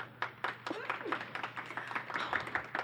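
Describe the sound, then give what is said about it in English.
An audience claps to vote for Anka Goms in a steady burst of many overlapping hand claps lasting a few seconds, mixed with scattered voices and a few cheers, with a low steady hum beneath. “Okay, so if you would like to vote for Anka Goms, please clap.”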